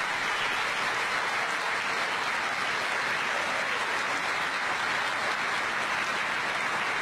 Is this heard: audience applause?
yes